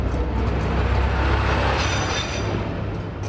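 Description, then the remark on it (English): A train rumbles steadily past without stopping as it passes through the station at Glashütte, a watchmaking town, a loud continuous roar of wheels on rails with faint metallic squeal, filling the whole moment with no voices. “Trains usually don't stop here, they pass through.”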